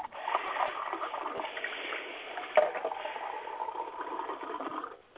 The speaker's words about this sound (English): Pouring a drink for everybody there, or what? No, I was rinsing out my cup, sorry.